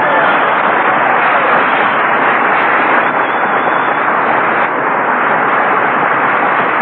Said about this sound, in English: Clap them hands. Stir up some air. It's hot in here.